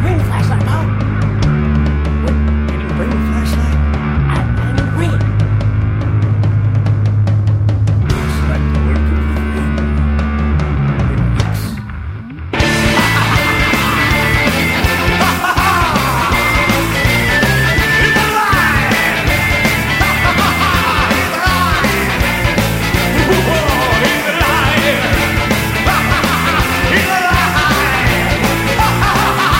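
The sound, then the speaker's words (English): A loud rock song played on air plays steadily. A bass-heavy, sparser opening gives way after a brief dip to a dense full-band section with driving drums and shouted vocals. “I haven't heard that song in, I don't know, forever.”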